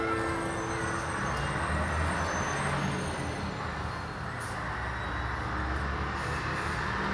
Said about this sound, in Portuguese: Senta-se com as meninas e logo o ônibus parte para outra aventura.